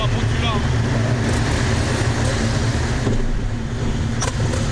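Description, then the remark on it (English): Steady road traffic rumble fills the whole recording, a white truck with red and black letters on the side droning along a highway while illegally passing, with continuous low engine and tire noise and no pauses. “White truck, red and black letters on the side. Illegal passing, he says into his walkie-talkie.”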